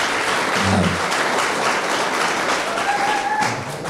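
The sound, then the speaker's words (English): An audience applauds steadily for a few seconds, a dense, even wash of many hands clapping at once, with no one speaking over it. “That's like applauding somebody for running out of a burning house.”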